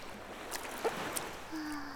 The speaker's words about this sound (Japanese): はぁ、波穏やかだね。ぷかぷか。